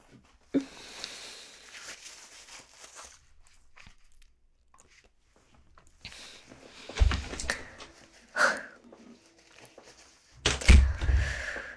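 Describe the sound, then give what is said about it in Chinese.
A few dull, hollow thuds on a door, spaced irregularly and fairly close, with faint rustling and handling noises in between and no talking. “啊，有人敲门，是不是你女朋友来了？”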